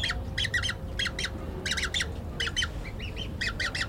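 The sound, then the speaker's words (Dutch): A young bird at its nest hisses defensively in a string of harsh, raspy bursts, grouped in quick clusters of three or four, over a low steady rumble. No one speaks. “Hij is toch een beetje wantrouwend nu. Ja, maar hoorde je dat? Hij blaasde.”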